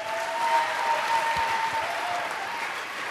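A crowd applauds steadily, a dense wash of many hands clapping at an even, fairly loud level throughout, with no voices standing out.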